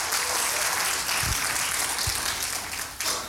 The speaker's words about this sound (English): Clap your hands. Come on, everybody. Why is it hard to clap your hands? John P. Key said, clap your hands. Oh, clap your hands.